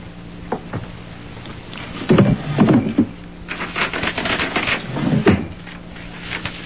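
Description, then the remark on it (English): A wooden drawer in a table by the window, holding a pen and hotel writing paper, slides and clunks a couple of times, with light rummaging and rustling in between and no one speaking. “In that drawer, the table by the window, there's a pen and some hotel writing paper.”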